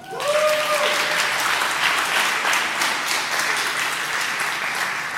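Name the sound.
audience applause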